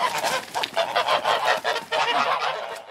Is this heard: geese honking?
yes